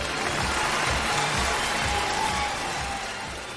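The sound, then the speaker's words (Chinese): A burst of steady crowd applause, dense and noisy, holding at an even level for a few seconds before easing slightly at the end. “听懂掌声。”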